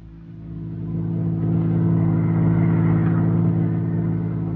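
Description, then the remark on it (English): A car engine starts low and builds into a steady, loud revving rumble as the vehicle pulls away and drives on, continuous with no voices. “Well, let's get back into the car before they come out.”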